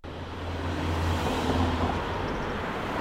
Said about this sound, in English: Cars are speeding by on a busy street in Madison.